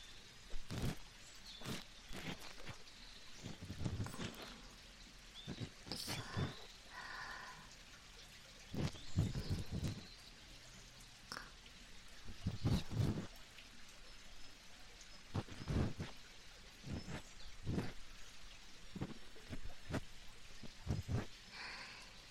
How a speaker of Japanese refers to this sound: 柔らかい綿棒でゆっくり優しくこすっていきますから、川のせせらぎも一緒に楽しんでくださいね。